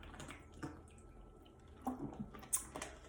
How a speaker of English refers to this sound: And a pause so I can take a drink of water.